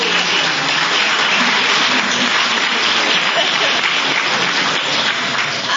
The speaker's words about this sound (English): Here he is. Yep. Round of applause.